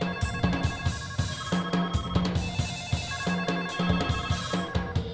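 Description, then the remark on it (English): Several telephones on a desk ring at once, their electronic trills overlapping in a busy, rhythmic pattern of repeated bursts that continues steadily throughout, fairly loud, with no voices. “Finister turns to his desk as the phones start ringing.”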